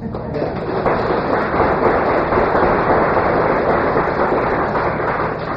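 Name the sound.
audience applause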